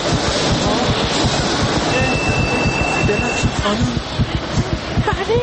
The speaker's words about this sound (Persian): ای وایسا، قطار اومد، قطار اومد، من دیگه برم چون الان در بسته میشه